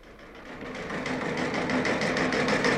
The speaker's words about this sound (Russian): Включаю телеграф.